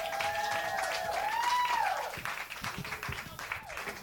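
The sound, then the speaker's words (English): An audience breaks into steady, dense applause welcoming comedian Paris Sashay, with rising whoops and cheers cutting through the clapping before the crowd noise eases slightly toward the end. “Please start clapping for Paris Sashay!”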